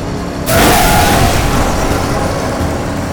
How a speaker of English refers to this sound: The Volvo hit the roadblock at 47 miles an hour.